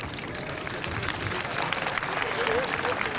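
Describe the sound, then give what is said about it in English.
A large crowd cheers, waves flags and applauds continuously after a Mass led by the Pope, a dense, steady wash of clapping and raised voices that stays loud and even throughout, with no single speaker standing out. “When all was over, a spontaneous explosion of affection and approval, with cheering and flag waving, rippled through the crowd.”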